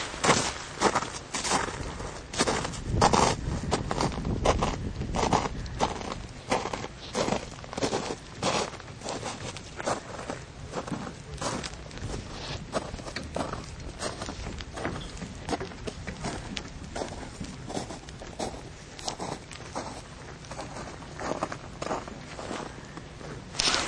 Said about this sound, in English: That was a young woman walking across some of the very melted snow that, well, now it's more like crunchy remnants of ice.